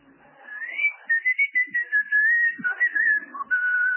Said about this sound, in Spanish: Usted se limita a chiflarla.